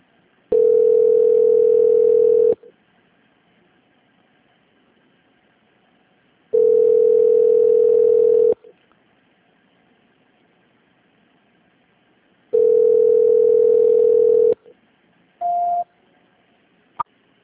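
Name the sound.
phone line tone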